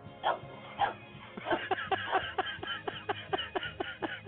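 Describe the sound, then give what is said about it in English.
A dog barks in a quick, excited series of yips and woofs, mixed with whiny whimpering sounds, fairly loud, with short bursts repeating rhythmically throughout. “You talk dog?”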